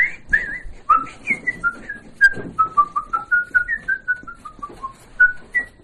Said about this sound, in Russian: А так по улице хожу, так я все насвистываю, что-нибудь. На балкон выйду, тоже все.